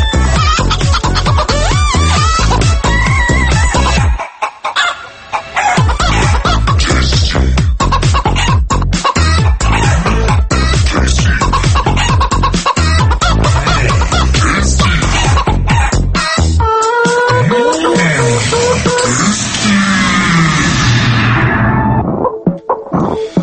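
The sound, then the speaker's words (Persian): A hen cackles loudly, a rapid, insistent run of clucks like an egg-laying squawk. It keeps going for the whole stretch with only a brief pause early on and no talking. “آداش فکرم داشت تخم میذاشت. تخم مرغ اولا گرون شده.”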